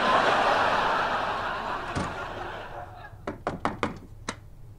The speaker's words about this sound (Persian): در رو بزن